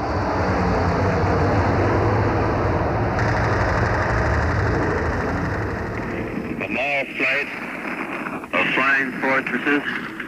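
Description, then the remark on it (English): A dense, steady roar of aircraft engines, some 36 to 38 planes passing over the invasion fleet during the Normandy landings, fills the first six seconds, then thins as a voice begins speaking over the fading drone; wind rushes through the rigging of a ship's mast top. “Are passing over the invasion fleet. Bats can hear the roaring of their motors.”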